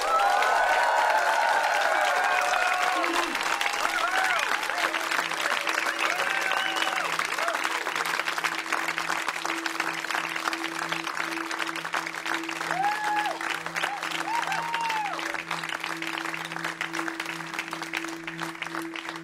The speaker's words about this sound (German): Ihren warmen, ihren herzlichen Applaus live bei der MDR Kulturstudio Session.